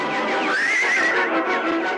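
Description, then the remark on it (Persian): A horse in a stable whinnies loudly for about two seconds, a high, wavering neigh with a rising then falling pitch and a shaky, breathy tremble, with no voices present. “اسب شهی میکشه.”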